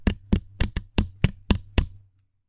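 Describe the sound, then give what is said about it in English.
Eight sharp knocks tapped out in a quick, slightly uneven rhythm as a Morse code message spelling the killer's name. Each is a crisp, loud rap with a low thud beneath it, and no voices are heard. “This is the killer's name in Morse code.”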